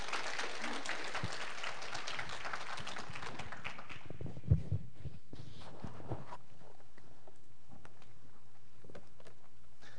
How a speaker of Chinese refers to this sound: 好 ，OK， 那我们就热烈掌声欢迎陈牧师在我们的中间。